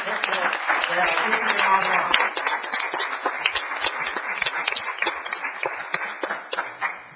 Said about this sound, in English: And even though they are not here, I recommend applause for them.